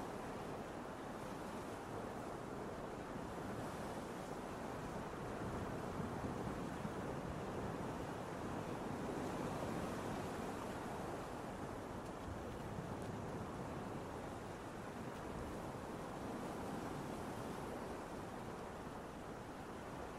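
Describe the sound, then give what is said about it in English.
Continuous ocean surf rolls and crashes steadily, a broad wash of waves with gentle swells in intensity and some wind rumble, no voices present. “So nice. Why aren't I at the ocean?”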